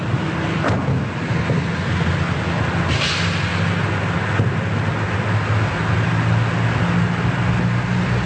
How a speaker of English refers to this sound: You can hear regular bus service is still going. You see, did you hear that bus pulling away?